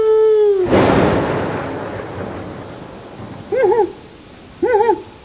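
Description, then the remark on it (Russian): An owl hoots twice, each call a short, wavering, mid-pitched hoot, after a loud rush of splashing water fades away. “Сова! Сова! Слава Богу, ты прилетела.”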